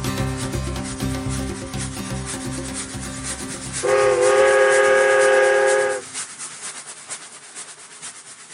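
A train rumbles along the rails with a steady rhythmic chugging, then a loud sustained whistle blast sounds for about two seconds before the clatter continues more quietly.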